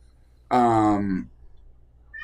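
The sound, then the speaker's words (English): A cat gives one loud, drawn-out meow lasting under a second, its pitch sliding down at the end, then it goes quiet with only faint background noise. “So don't mind the cat.”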